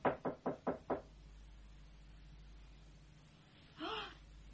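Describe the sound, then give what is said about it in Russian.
Five quick, soft knocks on the door of a house late in the evening, in an even rhythm, followed by a quiet pause with a low steady hum and then a short, breathy gasp. “Он тихо постучал.”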